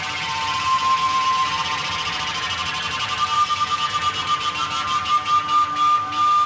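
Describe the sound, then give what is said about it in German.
A sound installation in Bregenz of self-built flutes and pipes made from copper tubes lying on the floor, with thick hoses, computers and fans, gives a dense, breathy drone of many sustained pipe-like tones, airy hiss over steady high pitches, gradually breaking into a fast rhythmic pulsing that swells and fades without voices. “Ein Klingen, Rauschen, Pulsieren, Tönen und Dröhnen, zart, konzentriert, an- und abschwellend.”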